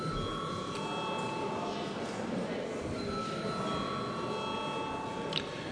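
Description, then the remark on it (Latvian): A parliament chamber's electric vote bell rings steadily without a break, a sustained bright metallic tone holding at an even loudness, with a low murmur of voices and shuffling underneath, called before the final third-reading vote on amendments to the Latvian Administrative Violations Code. “Paldies, lūdzu zvanu.”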